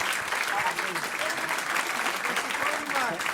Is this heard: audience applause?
yes